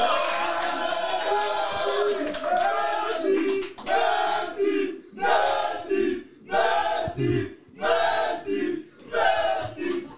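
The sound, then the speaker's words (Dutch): A live audience, invited to make noise, cheers and shouts loudly, first in a continuous roar, then in a series of rhythmic bursts of yelling separated by brief pauses. “We hebben vandaag ook een live publiek aanwezig. Dus je mag even lawaai maken.”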